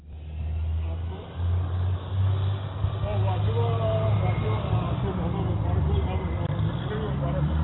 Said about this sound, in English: That's life in the Bay. Hear that fucking bus in the background.